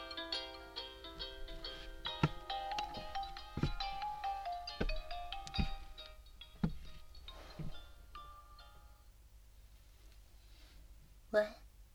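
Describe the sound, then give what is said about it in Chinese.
A phone ringtone for an incoming call plays a bright, repeating electronic melody for about six seconds, clear, then cuts off, leaving faint rustling and a few sharp clicks. “哦，我接个电话，你等我一下哦。”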